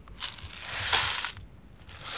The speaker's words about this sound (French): Moi, j'ai fait un bâton de pluie qui fait ce bruit.